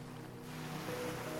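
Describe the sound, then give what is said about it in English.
Ocean waves wash steadily onto a shore, a soft, continuous surf roar at low volume with no distinct single crash, accompanied by a faint low hum and no voices. “Hear the calming sounds of waves crashing on the shore.”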